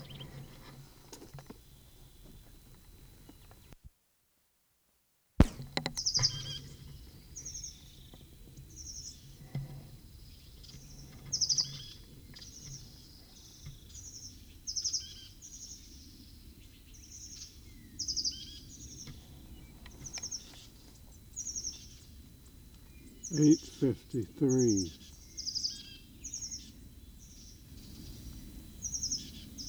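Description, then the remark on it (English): A bird calls over and over with short, high-pitched chirps in a quick, fairly steady series, moderately loud over a soft background hiss, with a few brief rustling thumps partway through. “8:44, same bird.”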